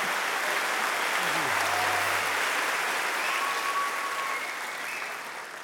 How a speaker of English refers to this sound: applause.